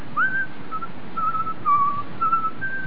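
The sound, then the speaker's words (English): Soft, gentle whistling of a slow melody, thin sustained notes gliding between pitches over about three seconds, with no talking around it. “So I started whistling just kind of softly.”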